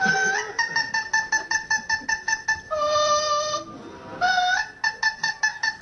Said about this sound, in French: Oui, vous connaissez tous ça ? L'air de la Reine de la Nuit, de la flûte enchantée de Mozart, et bien voilà, la version d'un perroquet Amazon à front bleu.